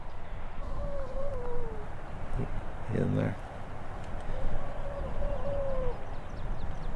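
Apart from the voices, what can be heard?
seals howling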